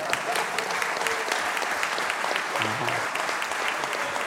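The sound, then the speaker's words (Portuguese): An audience claps for a referee, repeating its applause at his request: a dense, continuous patter of many hands at an even loudness, with a brief low murmur of a voice surfacing partway through. “Outra coisa importante, a gente não está acostumado a aplausos, né?”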